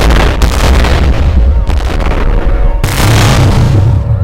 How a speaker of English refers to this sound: Then suddenly, The rockets that had leaped out of the ocean like fish all exploded at once. The explosion was ear-splitting!